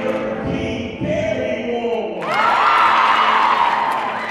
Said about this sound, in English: The energy in the room is electric. Everyone is stomping and cheering.